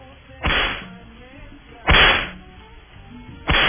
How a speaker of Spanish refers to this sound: Dale los latigazos a Cris.